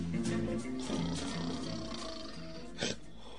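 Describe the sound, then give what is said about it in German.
A man snores on a heavy wooden bed in an apartment crammed with antique furniture, with a deep, rattling, drawn-out rumble, low and throaty, with a brief harsher snort near the end. No one speaks. “Auf einem schweren Holzbett schnarchte ein Mann.”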